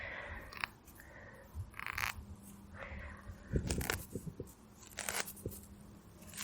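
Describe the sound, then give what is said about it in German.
Dry grass, whose seeds look like husks such as psyllium husks, being plucked by hand outdoors in nature in Germany: a series of short, crisp tearing and crunching rustles at an irregular pace, fairly soft, with a faint low hum underneath and no voices. “Das habe ich schon als Kind immer gerne abgerupft.”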